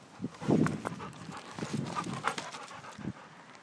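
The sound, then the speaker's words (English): A dog sniffing around a park pants in short, breathy bursts, with soft snuffling puffs scattered over a few seconds; no one speaks. “the dog's just sniffing around the park.”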